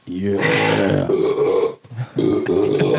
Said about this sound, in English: While burping and farting.